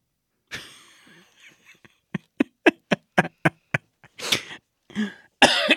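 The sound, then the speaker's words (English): A fit of coughing after choking on a little trail mix: a raspy opening cough, then a quick run of about eight short, sharp coughs in steady rhythm, ending with a few heavier, harsher hacking coughs. No speech. “I just choked on a little bit of trail mix I ate earlier.”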